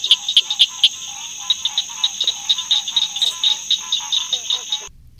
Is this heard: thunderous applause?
no